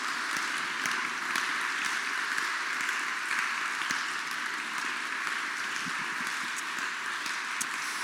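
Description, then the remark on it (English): Steady applause from a church audience honoring the church staff fills the whole stretch, a dense wash of many hands clapping at an even level with no voices rising above it. “Give them a round of applause and say thanks to them.”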